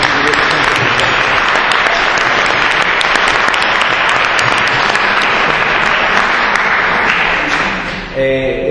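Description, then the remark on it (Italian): Sustained audience applause, a dense, steady wash of many hands clapping at full loudness for about eight seconds, then tapering off abruptly at the end. “Io mi permetto semplicemente un applauso di liberazione.”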